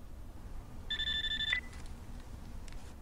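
A single short telephone ring, a steady electronic trill lasting just over half a second, sounds at moderate volume over a low background rumble, followed by quiet.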